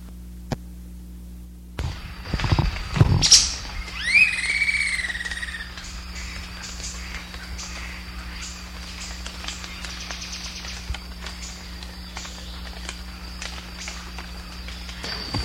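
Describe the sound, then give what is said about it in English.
A couple of harsh, raspy bird call notes given after tape playback, then a short burst of Campylorhynchus wren song with a few clear, downward-sliding phrases; the bird was seen singing. Afterwards only a steady background hum and insect drone remain. “After tape playback, that's a couple of harsh notes, and then the song from the Camplaranthus.”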